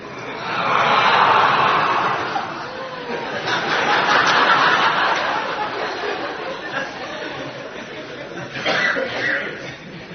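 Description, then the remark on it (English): An audience voicing a roar together, imitating a roar from a story being told, a loud, breathy wash of many voices that swells, eases, then surges again, with scattered laughter and chatter mixed in toward the end. “No, because I don't have a good throat, I can't try to resemble this roar, but all of you can try.”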